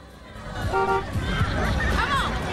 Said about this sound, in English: A white Pontiac pulls into the parking lot, and the black lady behind the wheel honks her horn.